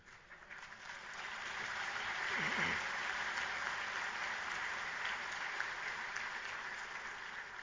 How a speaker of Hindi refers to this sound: उसमें तो ताली बजा सकते हैं।